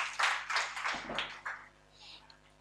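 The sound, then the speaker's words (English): An audience at a Christian service claps for Jesus together in a dense, steady patter that is loudest at first, then thins out and fades, with some voices mixed in. “Clap for Jesus and stand to your feet.”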